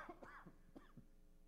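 A person coughs several times in quick succession, a cluster of short, rough, throaty bursts, fading off after about a second with no talking.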